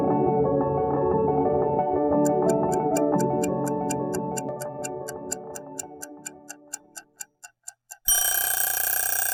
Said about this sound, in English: The scary sound of an alarm clock to start off the day can launch anyone right out of bed.